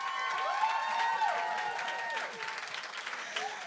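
A crowd cheers and claps steadily throughout, a dense wash of applause with whoops and shouts rising above it, fairly loud and sustained without a break.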